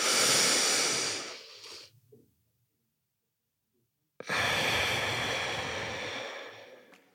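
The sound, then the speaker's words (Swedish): Slow, deliberate box breathing in through the nose: one long, loud breath, roughly two seconds of held silence, then another long, airy breath that gradually fades. No talking. “Ja, men den lilla detaljen att andas fyrkant med näsan.”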